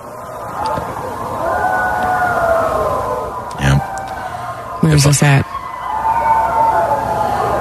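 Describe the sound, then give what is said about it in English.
A crowd of people howling together outside, in long, wavering, siren-like tones that carry through the whole stretch, with a couple of brief louder bursts and a voice talking over it; the howling is loosely organized through Facebook and Nextdoor groups. “The howling is loosely organized through Facebook and Nextdoor groups.”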